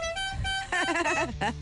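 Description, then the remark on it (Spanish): A car horn gives one steady, sustained honk for about half a second, then a voice starts talking loudly over a brief held tone, clear. “enséñale cómo suena tu claxon”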